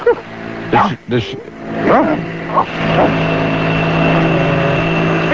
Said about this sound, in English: Hey, you got a bark. There's a bark. She's a sweet dog. Very, very good temperament.